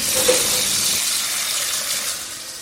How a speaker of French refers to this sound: Je vais remplir une casserole d'eau bouillante.